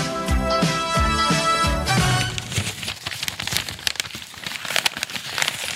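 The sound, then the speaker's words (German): A short burst of music gives way to crisp rustling and crinkling of freshly printed paper sheets, irregular papery crackles continuing steadily for a few seconds with no talking. “Es knistert.”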